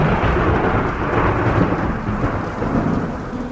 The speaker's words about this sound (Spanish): Amo mojarme bajo la lluvia. Todo se potencia con ella.